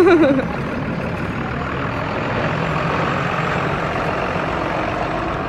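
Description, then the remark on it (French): A large bus pulls in to where passengers are waiting for it, a brief brake squeal dropping in pitch at the start, then its heavy diesel engine rumbles steadily at a loud, even level. “Ça va être notre bus, celui-ci.”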